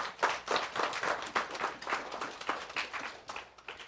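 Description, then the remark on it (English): A crowd applauds steadily for a few seconds, many hands clapping in a dense, overlapping patter at a fairly even, moderate loudness with no voices on top. “Yes, clap for that.”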